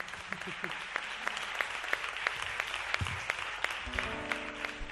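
A crowd applauds steadily, dense clapping filling the room at moderate volume, with a faint voice and a brief tonal sound near the end.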